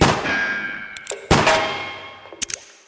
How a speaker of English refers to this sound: I'm going to shoot that padlock off the door.